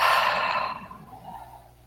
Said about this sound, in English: And just take a couple of nice deep breaths, breathing in through your nose, breathing out through your mouth.